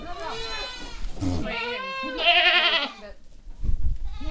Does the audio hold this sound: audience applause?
no